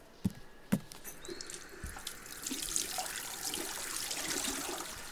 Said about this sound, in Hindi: ये क्या तुमने सिर्फ पानी से हाथ धोए?